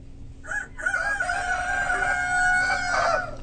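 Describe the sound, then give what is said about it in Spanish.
A rooster crows loudly in the early morning, one long drawn-out cock-a-doodle-doo with a strained, warbling tail, over a steady low hum. “Sí, aquella mañanita el Cerro del Rebote despertó con un canto que a todos llenó de alegría.”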